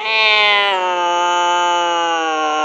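A loud, sustained cat screech close by, one long strained wail with a shrill pitch that drops slightly partway through and holds steady until the end.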